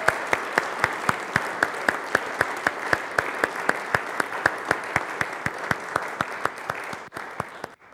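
An audience applauds steadily as a round of thanks for a member's ministry, a dense wash of clapping with a regular rhythmic beat running through it, then thinning out and fading near the end.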